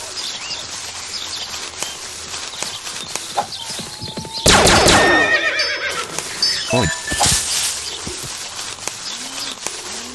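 A loud, shrill horse whinny bursts out midway, followed by fainter trailing neighs and some rhythmic clopping of hooves over a low background murmur.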